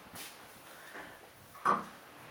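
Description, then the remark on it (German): A few soft shuffling noises, then a single short knock-like thud as a half-open door is pushed or clicks shut, not loud. “Ich dachte, die Tür war nur so halb. Dann können die Katzen auch rein.”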